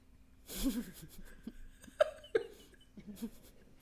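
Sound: drinking water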